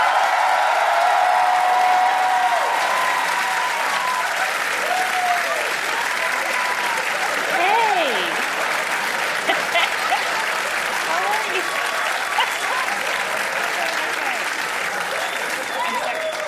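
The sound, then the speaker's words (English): Sustained applause from a large live audience at a live show fills the room, steady and loud for over fifteen seconds, with scattered cheers and whoops rising above the clapping. “I pimped you into an unnecessary applause.”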